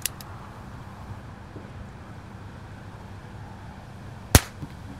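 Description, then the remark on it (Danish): A single sharp .22 short revolver gunshot cracks out near the end, a brief loud snap with a faint echo, over a steady low outdoor rumble of wind. “Det her er lyden af en kaliber 22.”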